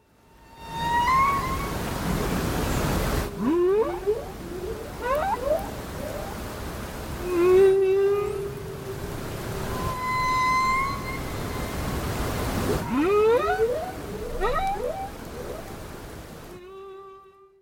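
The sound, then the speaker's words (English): Humpback whale song, with long moaning tones and rising and falling whoops repeating in phrases over a steady wash of ocean noise, no voices present. “That was ….”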